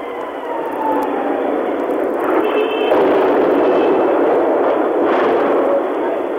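A faint descending whistle of an incoming shell over the white rooftops of Phnom Penh at 3 p.m., then two heavy explosions a few seconds apart in the heart of the capital, each a broad burst of rumbling noise fading into the hiss of a noisy, muffled recording.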